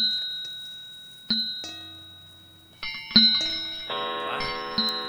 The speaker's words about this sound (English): His glance happened to rest upon a disused bell. And as he looked, he saw this bell begin to swing.